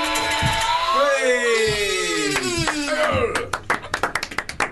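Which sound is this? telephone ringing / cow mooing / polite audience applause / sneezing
polite audience applause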